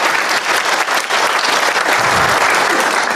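A crowd applauds with dense, steady clapping that stays loud and even for the full three seconds, a continuous wash of many hands with no voices standing out.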